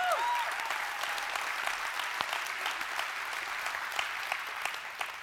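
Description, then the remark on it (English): A large audience claps steadily, a dense, continuous wash of applause filling the room at moderate volume, with a brief whistle-like tone near the start. “If y'all keep clapping, you're going to take up all my time.”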